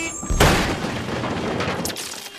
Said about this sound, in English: Dale is tugging at the handbrake. Charlie's face drops as the bus crashes into the side of the cabin.